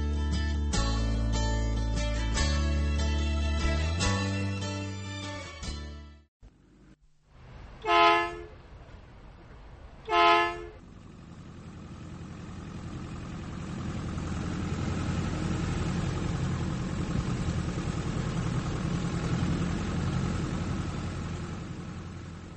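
After a short musical intro, a bus horn honks twice in loud, separate blasts, followed by the steady low rumble of a large engine idling.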